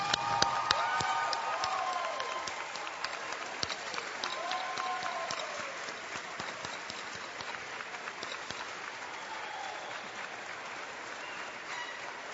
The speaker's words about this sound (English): Today, before I begin, I want all of our graduates to stand and to give your family members, friends, and your professors and the administration a roaring round of applause for the support, the love that has brought you here today.